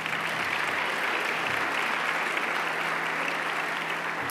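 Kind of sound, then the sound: crowd, audience applause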